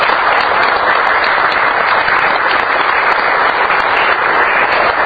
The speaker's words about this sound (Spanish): Es toda una vida de trabajo. Toda una vida de trabajo. Un aplauso para él. Al contrario, un aplauso.